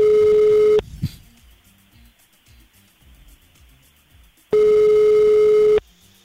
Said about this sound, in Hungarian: Még egyet, akkor várjunk. Még egyet, szóval nem fogja felvenni. Nem veszi fel, és miért nem veszi fel?